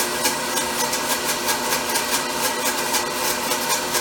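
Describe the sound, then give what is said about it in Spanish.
A blender motor whirs loudly and continuously, with a rough, rhythmic pulsing about four times a second, slowing as aioli thickens and turns creamy while oil is added in a steady stream. No one speaks. “Ahí vas oyendo cómo la licuadora va más lenta, porque ya se va poniendo cremoso.”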